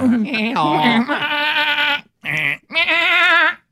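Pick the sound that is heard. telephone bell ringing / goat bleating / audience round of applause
goat bleating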